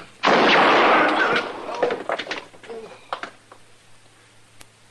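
A single loud gunshot cracks out and strikes a gun held in someone's hand, followed by a rough, rattling burst and a few scattered metallic clatters that fade quickly into quiet.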